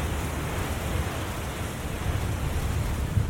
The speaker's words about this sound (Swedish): rullar en våldsam vägg av vatten in över stranden.